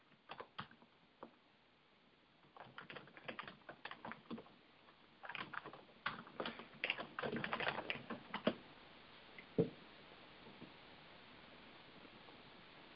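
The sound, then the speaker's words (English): Rapid clicking of keys on a computer keyboard, coming in irregular bursts with brief pauses, fairly quiet, with no voices present. “I'm still typing.”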